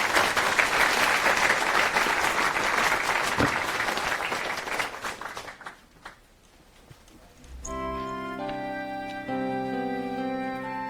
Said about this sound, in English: Let's welcome her with a round of applause.